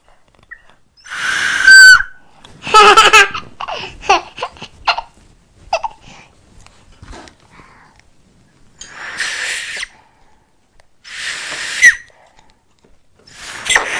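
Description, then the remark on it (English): A child blows a toy whistle in several short, shrill, breathy blasts, with quieter rustling and pauses between them and a couple of final toots near the end. “I got to whistle. Look at me. I do whistle like it.”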